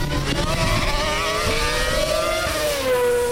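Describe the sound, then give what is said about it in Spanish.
Loud, steady engine roar from racing cars, with strong harmonic tones that shift and slide downward as the cars close in and change gear, no voices present. “Pues, eso puede ser la recta de meta o la curva Dry Sack, que es la que viene el sonido de lejos y luego reducen hasta seis marchas antes de llegar a la actual curva Dani Pedrosa.”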